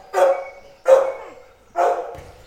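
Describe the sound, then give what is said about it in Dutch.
Three loud, fairly high-pitched dog barks at a dog kennel come at a steady interval of roughly one per second, each sharp at onset and trailing off briefly, with no talking. “Meestal beginnen ze te blaffen als ze vreemde mensen zien.”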